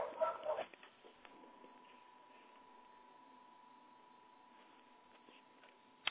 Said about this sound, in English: And clearly, everyone can hear dogs barking right now.